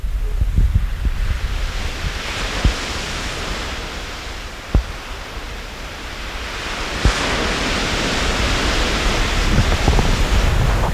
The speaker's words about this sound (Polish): Te dwa poranki patrzymy na Morze Śródziemne, które też pewno w Państwa imieniu mogę i pozdrowić, i pożegnać. Posłuchajmy jeszcze przez chwilę szumu tego morza i zaprośmy, tak, szum morza teraz.